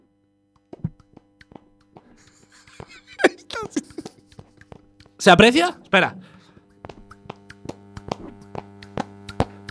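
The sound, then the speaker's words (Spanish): Fart sounds made with the palms of the hands held toward a microphone: scattered soft, wet plops and pops, then a louder squelchy, sputtering burst lasting about a second, with a few more small pops after and a brief spoken question. “Sí, sí, se apreció perfectamente mí, el sonido del cuesco.”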